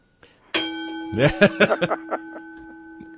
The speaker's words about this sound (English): Bell, yeah. Appreciate that. Hit the big bell. On the air.